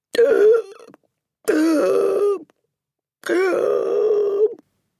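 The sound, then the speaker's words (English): A voice imitates the strangled gasps of the Trunchbull, whose mouth opens and shuts like a halibut out of water: three strained, choking vocal bursts of about a second each, separated by short pauses. They are loud, with no speech around them. “The woman's face had turned white as snow, and her mouth was opening and shutting like a halibut out of water and giving out a series of strangled gasps.”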